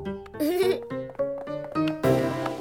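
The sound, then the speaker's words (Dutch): A child's voice imitates a piglet, making a rapid string of short grunting, squealing bursts, each a nasal, bleat-like snort, ending in a louder, breathier outburst. “Zo is het genoeg, knorretje.”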